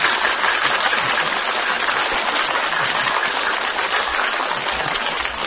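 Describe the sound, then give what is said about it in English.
An audience applauds steadily for several seconds for contestant number 3 in a contest judged by an applause indicator: a dense, even wash of many hands clapping at a constant loud level with no voices over it. “Your applause for number 3,”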